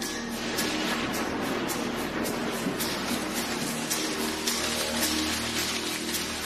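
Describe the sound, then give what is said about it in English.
A heavy downpour from a sudden storm in the hot, humid wet season, on February 26, 2010, roars steadily: a dense wash of rain hammering down with scattered sharper drop impacts and a low rumble beneath, loud throughout with no voices. “Suddenly, a storm erupts.”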